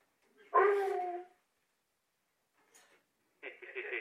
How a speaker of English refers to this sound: And it sounds like your dog concurs.